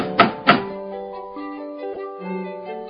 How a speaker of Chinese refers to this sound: 当他们到达瑞比家的时候，小豆马上跳着去敲瑞比家的门。